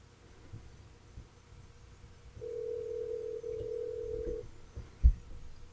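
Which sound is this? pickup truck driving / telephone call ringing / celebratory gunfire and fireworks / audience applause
telephone call ringing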